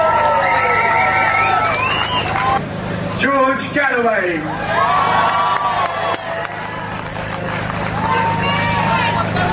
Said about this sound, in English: Round of applause, please.